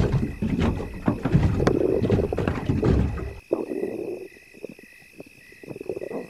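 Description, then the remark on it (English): Wooden thumps, creaks and sloshing as people clamber into a small rowboat, then the boat settles and only faint lapping remains under a steady chorus of crickets and frogs. “Come on, get in the boat.”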